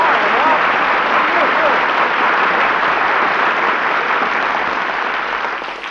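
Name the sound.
studio audience applause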